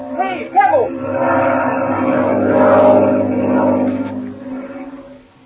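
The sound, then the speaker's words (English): A droning propeller engine of a black airplane passes overhead, a steady buzzing hum that swells louder toward the middle and then gradually fades away as it moves off. “I hear it. It sounds like a plane. You're right, Patsy. It is a plane.”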